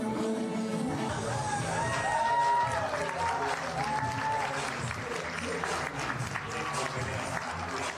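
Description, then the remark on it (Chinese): The audience at a banquet of Chinese businesswomen on the Gold Coast, Australia, applauds steadily after entertainment such as tai chi, karaoke singing and a gown fashion show, with cheers and voices mixed into the dense, continuous clapping, which stays loud for the full stretch. “获得了现场观众的连连喝彩与掌声。”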